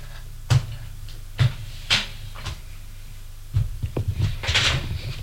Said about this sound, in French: Et... ferme bien la porte à clé.